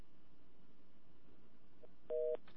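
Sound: telephone busy signal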